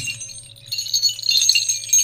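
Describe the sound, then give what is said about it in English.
A string of three small bells jingles with bright, high, overlapping tinkles that swell and shimmer continuously over a low steady hum, with no talking. “There's three different bell sounds, because there's three different bells in this string.”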